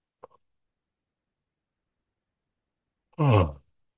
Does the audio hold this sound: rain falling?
no